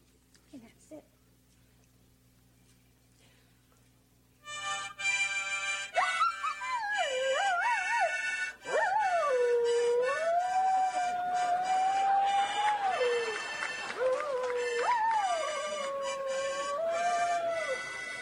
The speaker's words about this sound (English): This is a collie? No, actually a Sheltie. A Sheltie? Right. A large Sheltie. Okay, you have a harmonica? Right. Okay, and the dog sings obviously to your accompaniment. Only to the harmonica.